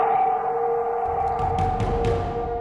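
The howl of the wolf from the movie: one long, sustained, mournful tone with rich overtones, holding a steady pitch, while a low rumble and faint bursts of noise swell beneath it.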